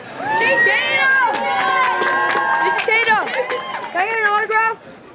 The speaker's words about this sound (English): The only place in Plainville where you can see the future is back at Jeff Kinney's bookstore. A crowd is already starting to gather. By evening, there will be hundreds of people lined up around the block for a visiting author.